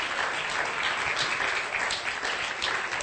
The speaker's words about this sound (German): Give the Lord one more hand. Gebt dem Herrn nochmal einen Applaus.